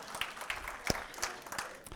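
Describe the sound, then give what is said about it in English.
A small audience applauds a speaker who has just read aloud a long list of ancient peoples from a passage, many hands clapping in a dense, steady patter that stays at an even level throughout, with a few sharper claps standing out, and no one speaking. “I personally think I deserve a round of applause for that last list.”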